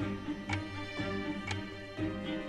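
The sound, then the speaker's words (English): A chess clock ticks steadily about twice per second, each tick crisp but fairly quiet, over a faint low hum with no one speaking, running Bobby Fisher's time in his game against Spassky in Reykjavik. “So Fisher's time is now ticking.”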